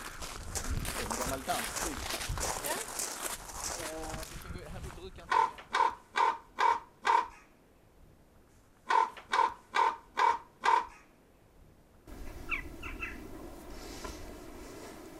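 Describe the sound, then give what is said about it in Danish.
Large birds at a site in the countryside give two loud bursts of harsh, rasping calls, about five evenly spaced caws in each. Background noise and people talking come before and after the calls. “Det er jo nogle store fugle.”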